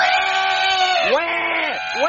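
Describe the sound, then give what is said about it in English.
A baby crying loudly on an airplane before takeoff: one long, strained wail that sags in pitch, then quick arching sobs that rise and fall, continuous and harsh with no pause. “Hey, you think you could cry louder? I don't think my eardrums have ruptured yet.”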